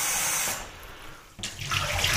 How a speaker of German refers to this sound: Jetzt spülen wir natürlich den Becher aus.